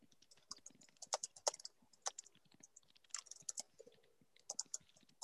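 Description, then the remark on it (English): Rapid, irregular clicking of computer keys in short bursts with brief pauses as someone types prayer requests into an online chat, a steady stretch of typing at a fairly soft level with no voices. “is typing into the chat.”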